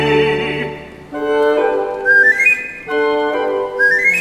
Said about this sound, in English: My snares are laid, my sights are set. I whistle them into my net.